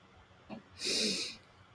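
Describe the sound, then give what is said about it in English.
A single deep breath drawn in during a guided breathing exercise, a soft rushing hiss lasting about half a second, preceded by a faint click, with quiet room tone and no talking. “All right, so first, we're going to breathe in.”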